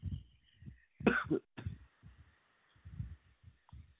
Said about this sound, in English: sorry, I was just coughing.